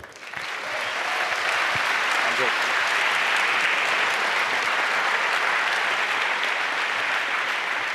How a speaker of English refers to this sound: Please give a warm round of applause to FX.